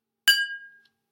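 A single bright clink of a glass of water, its clear ringing tone fading out over about half a second, then a tiny faint tick. No voices.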